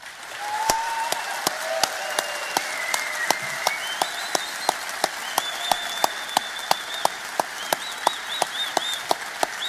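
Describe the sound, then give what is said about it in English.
An audience applauds Edward Snowden as he is honoured with the Winston Award. Sharp, evenly spaced claps beat out a quick rhythm over a dense wash of clapping. A few high whistles and cheers rise above it, and no one speaks. “May you be an example and inspiration for many others, and can we please give him another round of applause?”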